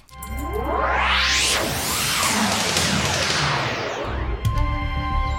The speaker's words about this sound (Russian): О, стрела прямо возле уха просвистела.